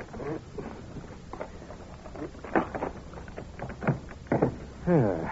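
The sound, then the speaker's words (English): A paper knife prying at the locked middle drawer of a desk: a series of scraping clicks, knocks and wooden creaks in uneven bursts, with a short voice sounding near the end. “That paper knife ought to be capable of prying the drawer open.”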